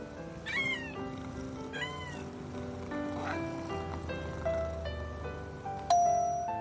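A cat meows three times in short, rising-and-falling calls, spaced a second or so apart, over a soft sustained musical background, with a bright chime ringing near the end.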